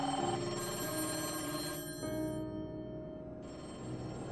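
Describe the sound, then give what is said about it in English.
Old-style telephone bells at the Berkeley police department ring loudly and continuously, their metallic trills overlapping and shifting over about four seconds, with no voices present. “Over the next 19 days, Berkeley's PD phones were ringing off the hook, all with tips on who had taken Christine.”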